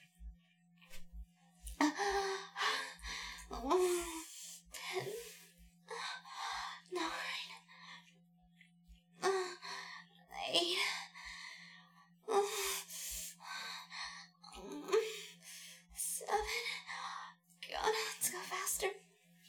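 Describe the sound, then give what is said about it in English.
Heavy breathing, loud: a steady series of deep, rasping breaths in and out, roughly every second or so, with a faint low hum underneath. “I can see it in how heavy you're breathing.”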